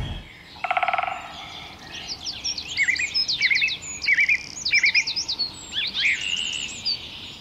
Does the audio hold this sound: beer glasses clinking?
no